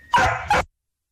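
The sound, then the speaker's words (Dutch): A dog barks twice in quick succession, the first bark longer and the second short. Both are loud, with silence afterward and no voices. “Een beetje erg veel hond, ja, inderdaad.”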